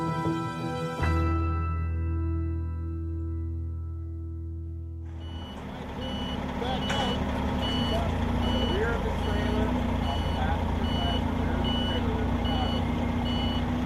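A semi truck of the Vikings football team's equipment crew, one of four carrying pads, helmets and player gear for the annual trip to Mankato, idles with a deep, steady engine drone, then a broader rumble takes over as its reversing alarm beeps in a repeating, evenly spaced pattern above the noise.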